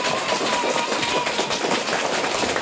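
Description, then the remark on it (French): An audience applauds the contestants warmly, a dense, steady wash of many hands clapping at an even loudness throughout, with no voices standing out. “On les applaudit chaleureusement.”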